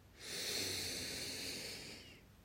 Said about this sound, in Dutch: Snuif de geur heel bewust op. Doe dat echt met geluid en al. Door je neus snuif je de lucht op.